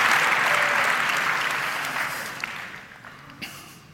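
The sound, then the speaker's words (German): Audience applause for the BSI, a dense wash of many hands clapping that starts loud and gradually fades over four seconds, thinning to a few scattered claps at the end. “Applaus fürs BSI.”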